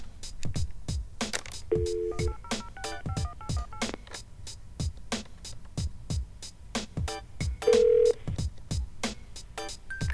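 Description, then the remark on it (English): Short electronic keypad tones beep at irregular intervals amid a steady run of sharp clicking taps as a phone number is dialed on a phone to call a drug testing hotline, with one longer, louder tone near the end. Fairly quiet, with no talking. “Let's call it again right now and see what we get. Get my phone ready here.”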